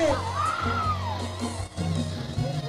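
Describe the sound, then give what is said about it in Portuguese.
A crowd yells and whoops loudly together, a sustained burst of cheering with one voice rising in a long whoop above the mass of shouts, over a low steady musical hum. “Só quem tá feliz dá um gritão aí.”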